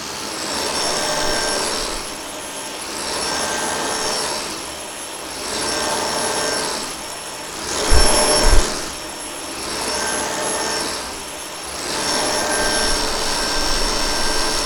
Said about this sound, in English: Now you can hear me switch on the vacuum and vacuum the carpet.